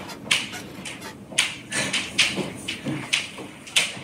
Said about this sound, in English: And that is... his ankle clicking as he walks up and down the stairs.